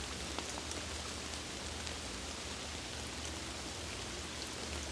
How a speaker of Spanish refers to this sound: Quédate aquí unos momentos disfrutando del poder y la magia de la lluvia. Disfruta.